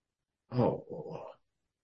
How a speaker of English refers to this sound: Oh, they're growing, aren't they? My goodness. Starting to walk and they bark.